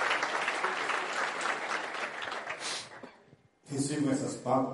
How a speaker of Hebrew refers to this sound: אני מקבל את המחיאות כפיים האלה, חברים, עם הרגשה שאני יוצא מהלב של כל אחד.